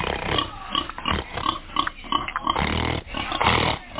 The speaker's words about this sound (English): So, guys, let's check out what's in the back right here. See some, I hear some pigs. What's up, homie? What's going on? You gonna come show us the love? He's challenging my snort.